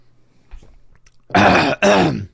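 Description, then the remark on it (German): Two loud, raspy throat-clearing bursts in quick succession from someone with a frog in the throat, each about half a second long, following a quiet moment with a faint low bump. No talking. “also ich habe so einen Frosch im Hals gerade und ich trinke doch schon die ganze Zeit, warte mal.”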